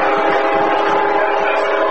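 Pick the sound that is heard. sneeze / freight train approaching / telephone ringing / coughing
freight train approaching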